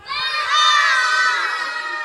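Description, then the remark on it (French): An audience of children shouting "maman" together in one loud, sustained cry, many high voices blending into a bright roar that swells slightly midway and holds for about two seconds. “Alors je regarde vers le public et j'appelle maman au secours, je crie maman.”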